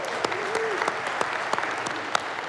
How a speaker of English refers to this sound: I know we clapped early, but let's hear one more.